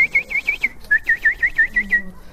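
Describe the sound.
A person whistles an imitation of little ducklings: a quick string of about a dozen short, high peeping notes in two rhythmic bursts, fairly loud, with no speech.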